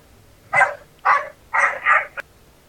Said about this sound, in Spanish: Esos perros allá atrás.